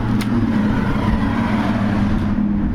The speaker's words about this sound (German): Das sind jetzt die Autos und wir sind wieder draußen am Turm.